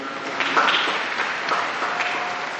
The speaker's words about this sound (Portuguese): Muito obrigado aos missionários. Também a eles um grande aplauso, todos.